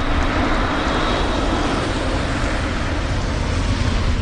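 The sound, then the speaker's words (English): An electric car's steady road and tyre noise hums continuously without any engine rumble, holding an even level throughout with no voices. “What if the majority of cars sounded like this?”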